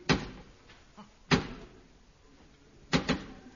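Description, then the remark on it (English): Sharp, solid coded knocks on a door by someone wanting to come in, in a deliberate pattern: two single raps spaced well apart, fainter taps between them, then a quick double knock at the end. No voices. “Three, two, one, and then two knocks.”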